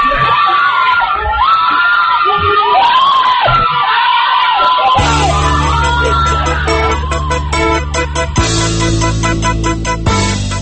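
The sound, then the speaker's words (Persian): A crowd of protesters at the Ashura 88 street protest screams and shouts in chaotic, rising cries for several seconds, loud, as a police van runs over a man, before a steady music track takes over for the rest. “وانت دیگری سفید و سبز از سمت چپ دور بر می دارد، دنده عوض می کند و از روی مرد می گذرد و فریادها رنگ فوقان می گیرد.”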